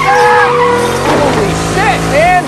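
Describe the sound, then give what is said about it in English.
A pickup truck's engine roars and strains as it accelerates, loud, with a winch whining under load and rising, squealing pitches near the end. The truck is hooked to another pickup. “The winch strains as Danny's truck accelerates.”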